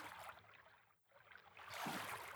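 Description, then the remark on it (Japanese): Water swishes and splashes as oars pull through it, with a brief lull between strokes and a louder, fuller surge of sloshing afterward. No voices. “星の運河は漕いで漕ぐと水の音が聞こえてくるんです。”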